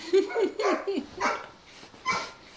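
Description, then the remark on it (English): A dog barks in a quick run of short, yappy barks, then lets out a couple more spaced-out barks after brief pauses. “We may have maxed out the dog patience.”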